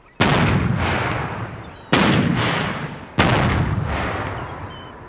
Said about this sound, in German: Während die Leinen ausgebracht werden, feuert die Besatzung in 1-2 Minuten Abständen eine auf dem Boot montierte akustische Kanone ab, um die Vögel zu vertreiben.